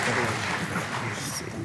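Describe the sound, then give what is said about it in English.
A church audience claps steadily in a dense, continuous patter of applause as a clap offering to the Lord, with faint voices mixed in underneath. “Clap offering to the Lord.”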